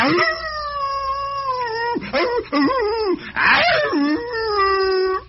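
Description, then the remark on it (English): A human voice imitates a wolf howl: a loud, drawn-out wail that holds steady, dips and wavers through sliding pitch bends, then settles into a long sustained tone. “That's a howl of a wolf.”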